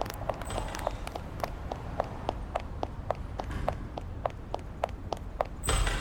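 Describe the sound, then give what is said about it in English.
Quick, evenly spaced footsteps of a man running back to an apartment, about two strides per second, moderately loud over a low rumbling background, with no voices. “He's running back to the apartment. We're right behind you.”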